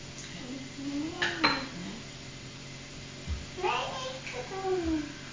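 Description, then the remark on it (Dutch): A metal lid clatters onto a cooking pot with a sharp clank, followed by a few softer kitchen knocks, while a child's voice murmurs. “Dan doen we de deksel erop.”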